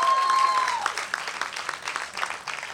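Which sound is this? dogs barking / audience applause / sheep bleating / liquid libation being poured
audience applause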